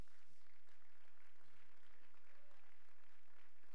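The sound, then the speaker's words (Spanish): A church audience gives another round of applause to the Lord during a sermon, a steady, dense wash of many hands clapping, held at an even, fairly soft level for a few seconds with no voices over it. “Alguien déle otro aplauso al Señor.”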